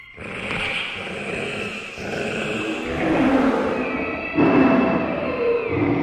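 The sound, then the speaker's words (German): Several children wearing homemade paper animal masks at a craft birthday party growl, roar and snarl together in imitation of animals, a dense, continuous and fairly loud jumble of rough, throaty cries with no words. “Alle Kinder setzen sich ihre Masken auf und machen Tiergeräusche.”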